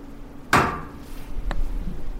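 A dining room radiator in a house knocks as it heats up after the thermostat is turned up: one sharp, loud metallic clank with a ringing tail, then a fainter tap about a second later, over a low steady hum.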